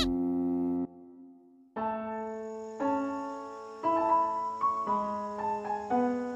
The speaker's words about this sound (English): An alarm clock.